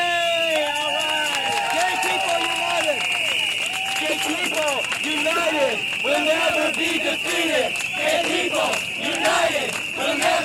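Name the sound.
crowd of protesters shouting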